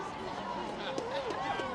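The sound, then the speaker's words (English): Dense crowd babble fills the scene, many voices overlapping at once in a steady murmur with no single speaker standing out, from a packed protest gathering on capitol grounds. “Oh, we're in a crowd.”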